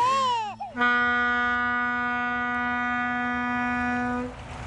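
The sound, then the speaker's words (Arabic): A baby boy cries, a brief rising-and-falling sob followed by one long, steady, high-pitched wail held for several seconds. No one speaks. “شو صار له لكن؟ ليش هيك عم يبكي؟”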